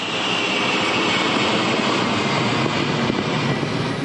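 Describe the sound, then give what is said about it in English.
The heavy propeller engines of a commercial cargo plane rigged for dropping food drone in flight during a food-drop run, a loud, steady, enveloping roar that holds unbroken throughout, with no voices. “The WFP has chartered most of the commercial cargo planes in the world that are rigged for dropping food.”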